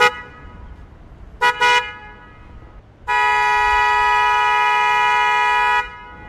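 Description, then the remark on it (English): A loud 112-decibel car horn honks: a quick double toot, then a long steady blast lasting nearly three seconds, piercing with a strong harmonic tone. “It's 112 decibels. And that's a typical car horn, right?”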